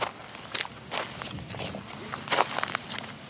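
footsteps walking

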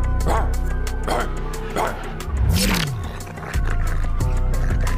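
dog barking

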